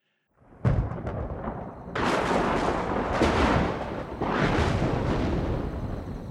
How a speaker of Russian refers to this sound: К ночи расплясалась гроза. То где-то за лесом притопнет, то за фермой.